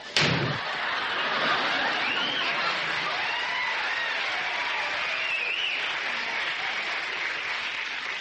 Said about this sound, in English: how could you slam the door in that poor little girl's face? Well, she was selling cookies and I didn't want any.